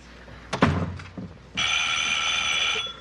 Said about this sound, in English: Edith returns home, deep in thought, shutting the door behind her.